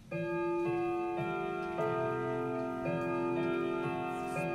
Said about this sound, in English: That way, the oils on her fingers won't damage the brass. The clock needs winding every 3 days to keep it ticking and chiming.